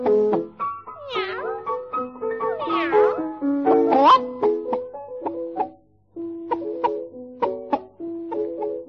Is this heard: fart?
no